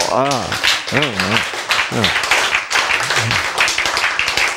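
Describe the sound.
An audience claps steadily and densely for several seconds, a loud, continuous patter of many hands, while a few voices call out briefly over the applause.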